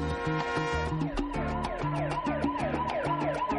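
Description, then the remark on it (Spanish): A police siren wails in repeated rising and falling sweeps, blended into the opening of a song with a steady, punchy beat and low bass. The siren is loud and continuous, with no voices. “En cuanto oís sirenas de policía, os ponéis ya...”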